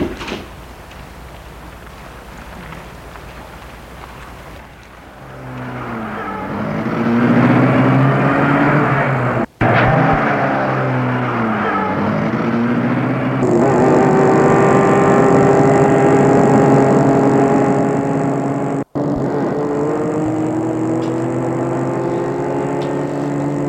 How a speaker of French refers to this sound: La voiture file.